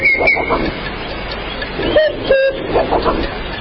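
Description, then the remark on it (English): A cuckoo call sound effect sounds two short hooting notes, the second slightly lower, over a busy background of murmuring noise and faint higher tones. “Ah, the cuckoo's in full swing.”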